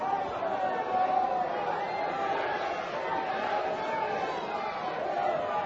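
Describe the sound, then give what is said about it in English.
A large crowd booing Joseph Park steadily, a dense, continuous roar of many voices that holds at an even, fairly loud level throughout, with no single voice standing out. “These people are booing you because you're a loser.”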